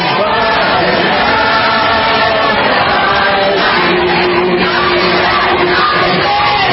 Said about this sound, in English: USA, yeah, give me some USA. Or is that some of their Hail Satan chanting?